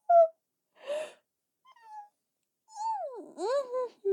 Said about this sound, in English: No, yawning, no, yawning.